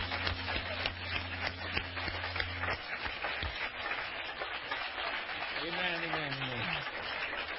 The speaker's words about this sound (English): Before you're seated one more time, clap your hands to the Lord.